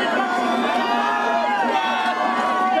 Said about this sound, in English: The screaming and yelling is pretty normal, but people there with Mexican flags.